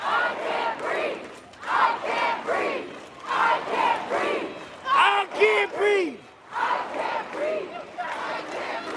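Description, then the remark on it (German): A large protest crowd at a demonstration in an American city chants "I can't breathe" in unison, the phrase repeating in steady rhythmic bursts of many voices, loud and continuous over a constant crowd roar. “Ich kann nicht atmen, rufe. Zehntausende Menschen haben gestern wieder in verschiedenen amerikanischen Städten demonstriert.”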